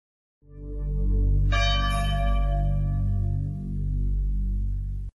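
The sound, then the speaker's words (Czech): A deep, mournful church bell tolls loudly, one heavy strike blooming into a long, shimmering resonance that hums on without any voices. “A taj lelek i zvonjenje tužnih zvona prenećemo duh kroz srca miliona.”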